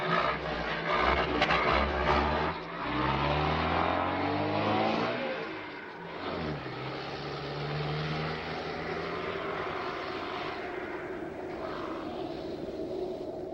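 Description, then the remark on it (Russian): A car engine revs hard and loud, its pitch climbing and dropping in repeated surges, then settles into a steady, rough drone as the car fails to move off, with no voices. “Значит, не в порядке, коль машина не едет.”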